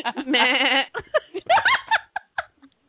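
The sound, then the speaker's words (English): A person gives a loud, quavering imitation of a goat's bleat, a nasal wavering cry lasting under a second, followed by bursts of laughter and short vocal sounds. “does make a convincing goat out of that.”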